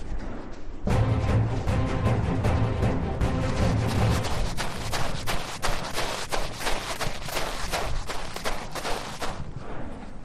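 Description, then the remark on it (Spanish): Rapid crunching footsteps on accumulated volcanic ash near an active volcano, a dense run of sharp gritty impacts over a steady low rumble, with no voices. “Pues es impresionante, sin lugar a dudas, ese sonido que escuchábamos es el que se hace al pisar las zonas donde hay más ceniza acumulada.”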